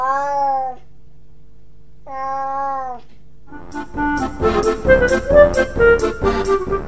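A cat meows twice, each a drawn-out, wavering cry with a pause between, followed by a busy stretch of rhythmic music with clattering percussion.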